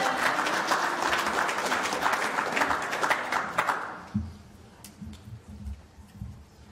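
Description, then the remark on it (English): Audience applause, a second round for a scholarship graduate: a dense, steady wash of many hands clapping for about four seconds, then fading out as a voice begins speaking underneath and carries on alone. “That deserves a second applause.”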